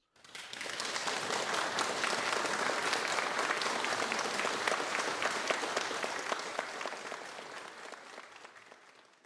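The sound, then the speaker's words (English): After a talk, an audience bursts into sustained applause for Mr. George Bell, many hands clapping densely together for several seconds before the ovation gradually thins and fades out. No one speaks over it. “Well, as Area Director of UK Operations, I, Sir Clive Sinclair, would like to offer Mr. George Bell a huge round of applause.”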